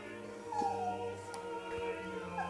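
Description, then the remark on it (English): A dog makes drawn-out, whining howls and yips, its rising and falling cries layered over a steady tonal music background with no talking. “Yeah, dogs tend to love it because it's played in their frequencies.”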